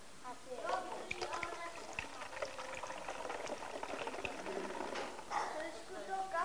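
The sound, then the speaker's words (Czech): Water poured in through a funnel drips and trickles steadily past a poorly sealing stopper into a held bowl, a continuous wet bubbling broken by small sharp drops, with faint voice-like murmurs mixed underneath. “Trošku to kape, že jo? Špatně to těsní, přesně tak, moc dobře tam ten špunt nedrží.”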